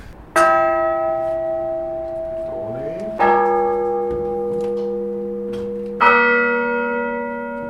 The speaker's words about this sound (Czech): Tolik ukázka zvonu